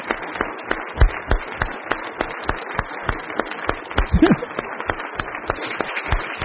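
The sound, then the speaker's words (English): An audience at a church service applauds to thank the speaker's father, with steady, rhythmic clapping that keeps a regular beat for the whole stretch, fairly loud, with a brief vocal cheer or shout rising through it partway. “Would you just a round of applause to thank my dad for what he means to you?”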